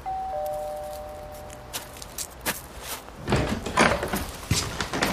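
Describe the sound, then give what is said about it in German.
A doorbell chimes with a steady electronic two-note tone, then a latch clicks and a door swings open with a burst of rattling and shuffling. No one speaks. “Ich klingel mal.”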